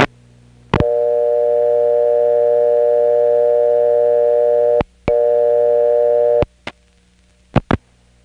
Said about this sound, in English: So even if you deposited a dime, if you dialed a vacant level, you'd get the same recording. As an example, here's what it's like to dial 9, a vacant level, after you have deposited a dime.